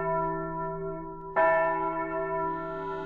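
A church bell tolls loudly and close by, its long ringing hum sustained before a fresh strike lands midway and rings on, with no voices present.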